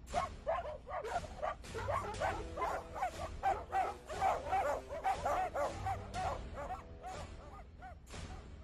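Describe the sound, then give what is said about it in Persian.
Several dogs bark and yip in a rapid, continuous chorus, with overlapping sharp barks and occasional whimpers, loud throughout; the buyers' dogs are chasing fleeing slaves on a shore. “گاهی برده‌ها از دیدن این صحنه‌ها چنان وحشت زده می‌شدند که در ساحل پا به فرار می‌ماندند و خریداران حریص با سگای خود اونا را تعقیب می‌کردند.”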